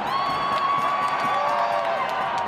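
A large crowd of protesters against rising university fees, including university and school students, cheers and shouts on Whitehall in a sustained roar, with high voices whooping over a dense wash of noise and brief sharp bursts standing out from the steady, loud din.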